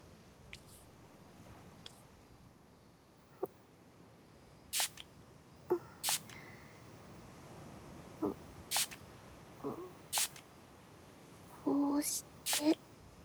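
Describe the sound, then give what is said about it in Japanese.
Several short, sharp spritzes from a small alcohol spray bottle, spraying the remaining alcohol onto a person's two hands, fired in a quick irregular series, with a couple of bursts coming nearly back to back near the end. “まずは残ったアルコールを。先生、両手をお貸しください。”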